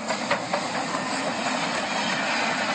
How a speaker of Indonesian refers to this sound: Setelah menempuh jarak 28.000 km dan 18 hari, kereta barang itu tiba di stasiun London tepat waktu minggu lalu. Kereta itu melewati Kazakhstan, Rusia, Belarus, Polandia, Jerman, Belgia, dan Prancis, akhirnya menyeberang di bawah Selat Inggris.